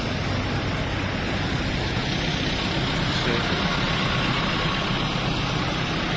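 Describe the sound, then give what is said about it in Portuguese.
A dense, continuous rumble of many tractor engines idling together at a protest gathering in Pedrafita, Lugo, Galicia, loud, with a steady low throb and no pauses over the whole stretch. “Escuchamos el motor de los tractores que en buen número llegaban hace poco más de una hora a la localidad lucense de Pedrafita, uno de los puntos donde tienen previsto concentrarse en el que es ahora mismo paso obligado para el tráfico de vehículos”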